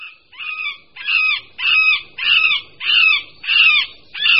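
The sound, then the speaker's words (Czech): A male middle spotted woodpecker gives its spring call: a steady series of about eight drawn-out, nasal, wailing notes, evenly spaced and fairly loud, with no other sounds around it. “Na jaře se samec strakapouda prostředního ozývá naříkavými, táhlými zvuky, někdy klesajícími, někdy stoupajícími, které nelze zaměnit s hlasy jiných strakapoudů.”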